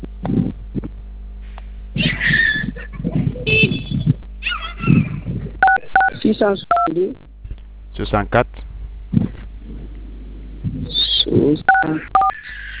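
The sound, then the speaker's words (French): A string of short phone keypad button tones beeps in quick bursts, several clustered together and a few more near the end, mixed with people talking over a narrow, telephone-like line during a customer service call with MTN. “Évitez de toucher les boutons du téléphone d'abord, s'il vous plaît.”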